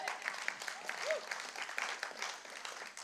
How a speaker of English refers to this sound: I think that was a better statement. I got applause there.